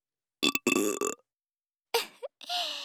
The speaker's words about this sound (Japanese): ゲップは好きになっちゃった？多分あなたよりも好きな気がする。